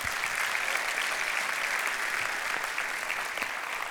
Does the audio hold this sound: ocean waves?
no